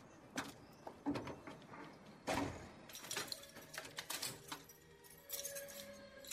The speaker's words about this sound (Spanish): Ella cierra el portón y luego entra a su casa.